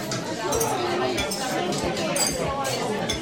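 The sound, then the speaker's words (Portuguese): Several bright glass clinks ring out in a toast during a tasting of a cabidela dish, over a steady hum of voices and table noise. “Faço um brinde convosco, à vossa.”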